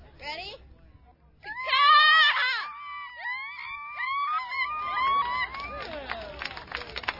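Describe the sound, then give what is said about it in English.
Grade-school children competing at the annual Seagull Calling Festival on the waterfront beach of Port Orchard, on Washington's Puget Sound, shriek high, wavering gull-like cries that swoop up and down in pitch, overlapping into a loud, jumbled chorus, with a rumble of crowd noise underneath. “Contestants, most of them in grade school, chirp, caw, and flap their way down the beach.”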